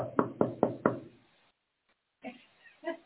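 Four firm, evenly spaced, loud knocks on a door, followed by a pause of silence and then some softer, muffled sounds.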